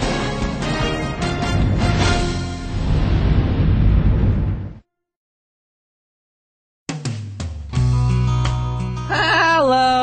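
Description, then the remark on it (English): A goat, the character Billy the Goat, bleats loudly in a wavering, nasal cry, then falls silent for a couple of seconds before another burst of harsh bleating follows. “I'm Billy the Goat, and I love my vegan diet.”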